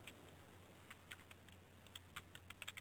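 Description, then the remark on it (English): Quiet, irregular clicking of keys on a computer keyboard, a series of light taps that quicken toward the end, heard alone over a low steady hum. “Why are you typing? Who's typing?”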